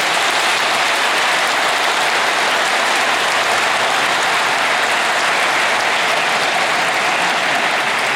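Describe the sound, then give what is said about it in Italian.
Sustained, dense applause from a large crowd for a newlywed couple at a church wedding, fills the space evenly for several seconds, a steady wash of clapping hands without any voices standing out. “Bel applauso a questi sposi.”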